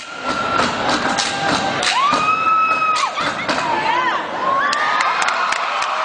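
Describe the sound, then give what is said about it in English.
A loud crowd at the National Sprite Step-Off cheers and shouts continuously at a step performance by a Zeta Tau Alpha team from the University of Arkansas, with high-pitched screams and whoops rising over the dense roar and a few thuds scattered through. “You can hear that crowd reaction.”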